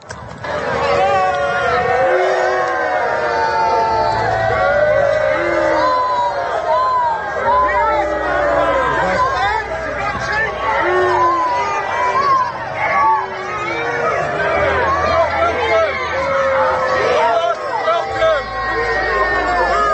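A large crowd boos and jeers the Prime Minister of Australia without pause, many voices overlapping into a loud, dense roar of sustained shouts that rise and fall across the whole stretch.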